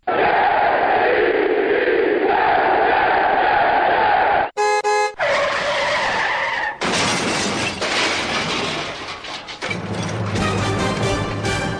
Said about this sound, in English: it sounded like a car crash.